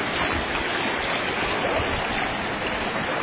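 creek water flowing

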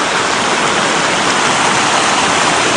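creek water running hard

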